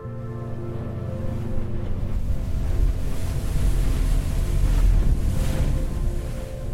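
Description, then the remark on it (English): Steady rushing wind and churning ocean water wash over a low, constant engine rumble, loud, heard aboard a boat heading back to the mainland from Santa Cruz Island in fog. No voices. “On the boat heading back to the mainland, I look back at Santa Cruz Island as it disappears in the fog behind me.”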